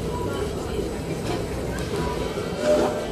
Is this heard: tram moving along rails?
yes